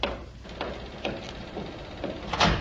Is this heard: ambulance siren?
no